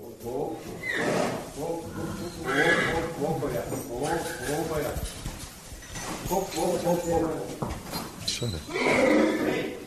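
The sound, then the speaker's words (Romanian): An Arabian horse is being harnessed, with hooves shuffling and clopping, the occasional whinny, and tack clinking and rattling, while people talk over much of the activity. “Da, și toată lumea într-un colț, fiindcă începe aventura înhămatului.”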